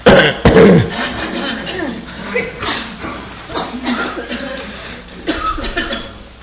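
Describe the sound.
A couple of sharp, close coughs burst out at the start, followed by people talking with a bit of chuckling in the background.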